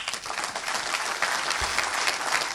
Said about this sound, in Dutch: En toen was er applaus. En terecht, want het was iets wat iedereen in die zaal verbaasde.